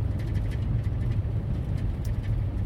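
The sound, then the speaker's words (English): Steady low rumble of a car driving fairly quickly on a sunny day, heard from inside the cabin, with continuous road noise and faint intermittent ticks and rattles over the drone; no one speaks. “So, I'll stop now, I'll stop blathering, concentrate on the road a bit.”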